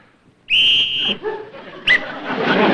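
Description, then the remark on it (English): A single loud, piercing whistle, blown to get attention, holds one steady high pitch for about half a second, then cuts off abruptly as the rumbling noise of passing tanks and scattered yelping sounds take over. “Colonel, with all those tanks going by and all that noise, how could we hear one little whistle?”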